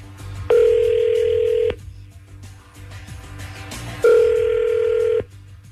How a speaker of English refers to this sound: You call Mom. You dial her up on your phone. We'll just listen in and see how many lies you can get through.